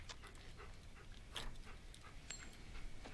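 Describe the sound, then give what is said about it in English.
A wolf dog pants softly and unevenly, with breathy puffs and one brief, thin, high whimper near the end. No one speaks. “You're bringing some fucking wolf dog into my house?”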